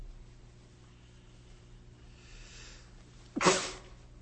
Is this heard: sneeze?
yes